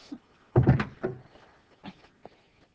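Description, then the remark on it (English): A door is pushed shut with a solid clattering thud, followed by a softer knock and a few faint clicks of the latch, then quiet. “Please, close the door.”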